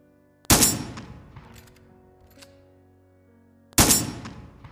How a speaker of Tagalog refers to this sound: Habang patuloy na pinapadura ni Aling Gregoria ng bala ang baril niya, unti-unting nagbabago ng anyo ang matanda.